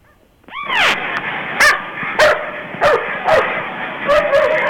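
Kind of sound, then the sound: animal, dogs barking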